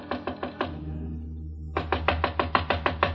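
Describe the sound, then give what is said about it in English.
Knocking on the door of Room 6, on the first floor of the Hotel Malau, with a light on inside: a quick run of about five raps, a pause, then a longer, steady series of sharper knocks. No one speaks. “There was a light on inside the room, and I knocked on Jan Svensson's door.”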